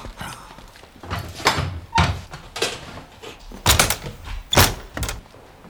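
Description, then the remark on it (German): A series of heavy footsteps thud across a hard floor at an uneven pace as a man leaves a room, followed by the door swinging shut behind him with a solid thunk. No one speaks. “den Raum verlassen und die Tür hinter sich geschlossen hatte”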